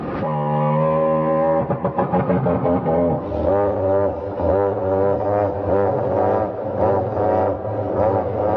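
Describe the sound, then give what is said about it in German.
A Tyrannosaurus rex vocalization as reconstructed by researchers: a deep, steady droning hum that turns into a throbbing, pulsing low rumble, loud and continuous, a bit like an idling engine. “Und jetzt wird es total spannend, weil Forscher haben rekonstruiert, wie der Tyrannosaurus Rex wirklich geklungen haben soll.”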